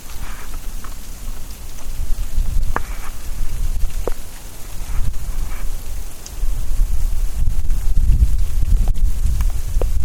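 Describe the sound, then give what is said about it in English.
Ice pellets patter steadily onto grass and leaves outdoors on Christmas Eve around 5 p.m. in strong wind, a dense crackling hiss with sharper individual ticks scattered throughout and a low rumbling undertone that swells toward the end. “And the ground is now white, but it's not snow, it's ice pellets.”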